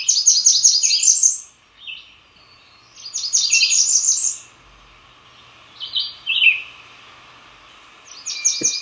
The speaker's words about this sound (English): All right, so you sent us sound for the Black Burnian warbler. Let's hear that.